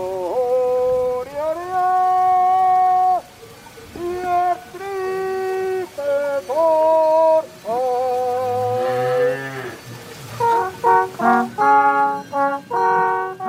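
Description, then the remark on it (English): A slow Swiss alphorn cow-herding melody (Ronds des Vaches), played on a long horn reaching from lips to ground, of long, sustained, rich horn tones stepping between pitches, with brief pauses between phrases, then a run of quicker, shorter notes toward the end. “Like the Ronds des Vaches melodies, cow herding music that Swiss herders played as they drove their cattle down from the mountains on long horns that went from their lips all the way to the ground.”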